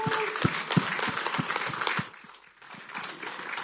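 An audience applauds steadily, a dense wash of many hands clapping at moderate volume that briefly thins out before swelling again.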